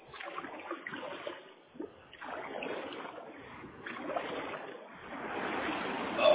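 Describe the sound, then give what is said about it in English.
Sloshing and splashing of water in repeated surges every couple of seconds from paddle strokes as someone paddles back toward the shore, steady and fairly loud with no voices. “And I'm definitely further than that, so I need to pour my way back in.”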